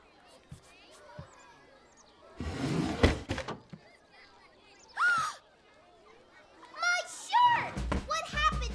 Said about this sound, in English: She groggily walks across the cabin and pulls open a drawer.